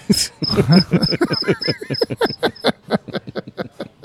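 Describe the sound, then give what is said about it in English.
Crickets chirp in a steady, rapid rhythm of short high-pitched pulses, fairly loud, with a low pulsing night-insect chorus underneath and no talking. “Hey, who let those crickets in here?”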